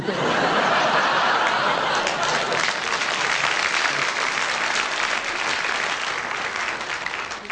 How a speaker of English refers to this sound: Thank you for that applause.